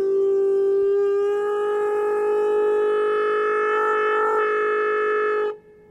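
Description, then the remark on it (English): A timeout conch horn blown in one long, steady, high-pitched blast lasting about five seconds, loud and sustained with a slight waver near the end before cutting off abruptly. No one speaks. “I'm blowing the conk.”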